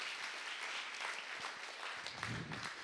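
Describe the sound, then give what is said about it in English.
A crowd applauds steadily, a dense wash of many hands clapping at once, with no gaps, holding an even, fairly loud level throughout. “Well, if you're going to clap, don't clap me, clap God, because He's the one you're putting your trust in.”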